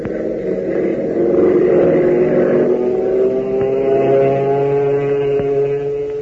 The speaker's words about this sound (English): Boy, oh boy, listen to the roar of that motor as Hop brings his ship in for a landing. And believe you me, when Hop brings her in, it's never anything but a perfect three-point landing.